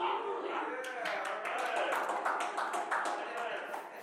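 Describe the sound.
Steady hand clapping, a quick run of sharp claps at an even rhythm, over a continuous murmur of many voices talking together.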